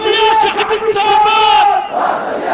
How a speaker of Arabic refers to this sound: هتافات المشاركين وشعاراتهم عبرت عن الثبات والاستمرار في دعم ومناصرة الشعب الفلسطيني ماليا ومعنويا وعسكريا.